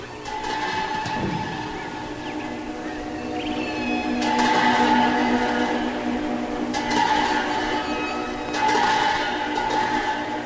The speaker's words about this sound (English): I just got entranced by the whale sounding of love.